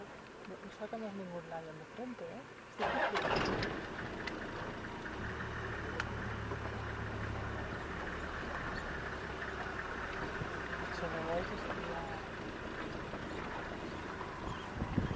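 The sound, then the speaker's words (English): A vehicle engine turns over abruptly and settles into a steady rumbling idle that carries on to the end, with faint voices murmuring beforehand; the car is being pulled out on a drive in the Serengeti. “And just meters away, as we pull the car out, the vehicle, we see a male lion hiding in the grasses.”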